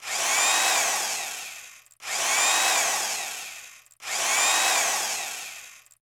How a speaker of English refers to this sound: That was difficult because Rocco had to drill through a wall to locate the air vent, and the wall's material proved more substantial than Rona's map had shown.